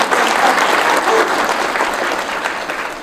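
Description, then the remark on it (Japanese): An audience claps for a few seconds, a light, scattered patter of hands that holds steady and then tapers slightly. No one speaks. “はい、じゃあ拍手ありがとうございます。パラパラの。”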